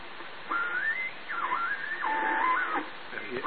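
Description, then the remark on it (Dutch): A valve regenerative grid-leak detector radio receiver, switched to the 80 metre band, squeals as it begins to feed back: gliding, wavering whistling tones that slide up and down in pitch over a steady band of static hiss, in several sweeps lasting a few seconds. “Als je dat gegil hoort, dan begint hij terug te koppelen.”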